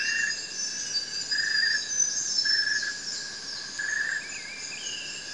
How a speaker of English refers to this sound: The insects start to call as the forest cools down. Birds start their dusk chorus, which is a gentler version of their dawn chorus. It's haunting and echoing through this patch of old growth just outside Glen Innes in northern New South Wales.